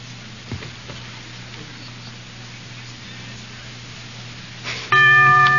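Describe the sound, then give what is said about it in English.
After several seconds of quiet background hum, a quiz-show bell suddenly rings out loud, holding a steady, bright ringing tone until the end, signaling that time is up on a question in Groucho's quiz show. “The bell is tolled.”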